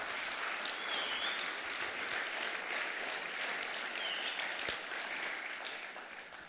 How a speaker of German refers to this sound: Und auch ganz herzlich willkommen an all die Leute in Balingen, die jetzt zugeschaltet sind über Video, an den Podcast, Videopodcast. Der wird ja bis nach Neuseeland geschaut. Hammer, gebt doch denen mal einen riesen Applaus. Hey, wow.